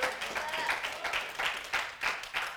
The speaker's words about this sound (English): So, come on, let's give him a hand clap in glory.